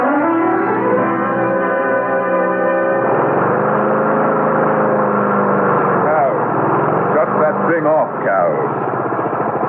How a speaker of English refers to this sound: Yeah, just mowing the lawn